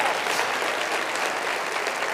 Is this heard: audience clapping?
yes